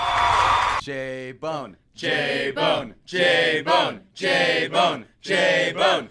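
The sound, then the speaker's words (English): A sound effect: a short burst of applause gives way to a loud crowd chant of "J-Bone", the two syllables shouted about five times in a steady, rhythmic cadence, with the second syllable dropping in pitch. “hit the applause sound effect followed by the J-Bone chant sound effect.”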